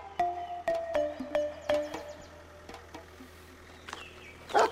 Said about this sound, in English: I see your dogs are ready.